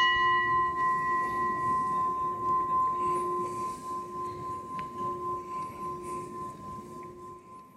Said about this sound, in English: We'll give him or her a gong.